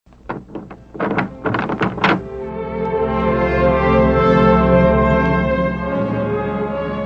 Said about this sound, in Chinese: 是的，在家。我来开门。